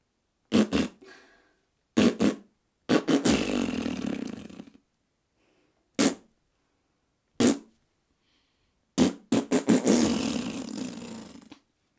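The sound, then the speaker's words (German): A human voice imitates a great bustard's courtship call with a series of loud, sputtering bursts, short blasts alternating with longer rumbling, fart-like stretches and brief silences between them. “die Imitation des Balzgesanges der Großtrappe”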